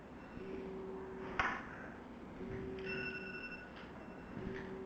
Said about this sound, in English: That's my timer that says my time is up. Better finish it.